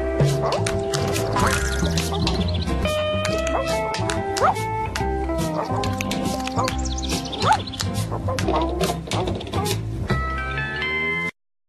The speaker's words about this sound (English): Now, the theme song is short, sweet, to the point. There's not really much to it,